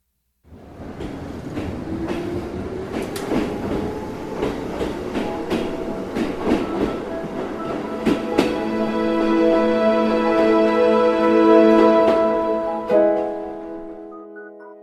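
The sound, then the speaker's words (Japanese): A train rolls along the rails with a steady rumble, a motor whine rising in pitch, and irregular clacks from the wheels passing over track joints. No one speaks. “冬が近づいているある日、僕はある人に会うため電車に乗った。”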